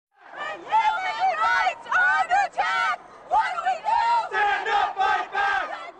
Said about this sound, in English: Protesters took to the streets of St. Paul outside the RNC again last night. The police again used a form of spray to break up the crowd.